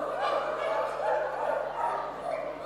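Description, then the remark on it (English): A crowd of people imitate dogs barking all at once, a dense overlapping wash of woofs and yips from many voices, sustained and fairly loud throughout. “Okay, dogs, can I hear my dogs barking?”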